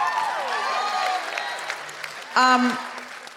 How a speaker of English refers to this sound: Also, could we have a big round of applause? We saw her in Act One. Now at final. Keep that going